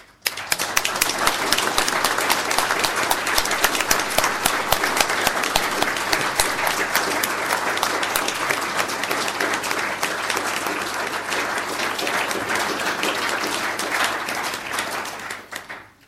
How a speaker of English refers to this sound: So please, could all those people I've mentioned that happen to be here today, I know they aren't all here, please stand up so we can give you an enormous round of applause.